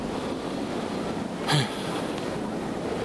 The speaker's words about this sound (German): Die 10 Grad fühlen sich wie 8 oder 6 an und Wind macht zwischen 37 und 80 km/h aus dem Westen.